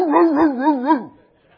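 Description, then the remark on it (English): A human voice imitates a small poodle's yippy whine, a single wavering, warbling call lasting about a second, fairly loud, then trailing off into quiet. “What's a bad preacher? A little poodle dog.”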